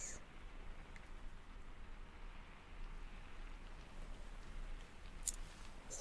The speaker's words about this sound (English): Listen to the rain.